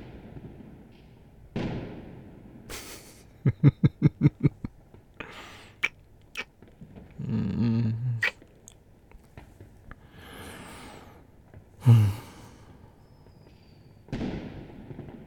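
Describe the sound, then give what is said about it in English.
New Year's fireworks for 2026 go off in scattered booms, with a quick crackling string of about seven pops early on and a few heavier bursts spaced out afterward, all fairly faint with no voices. “No, I'm sad I didn't buy any fireworks.”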